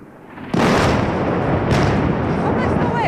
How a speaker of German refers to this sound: Ein syrischer Fernsehsender zeigt eine Moderatorin, die sich panisch wegduckt. Im Bild hinter ihr ist eine heftige Explosion zu sehen. Kurz danach folgt eine noch größere Explosion.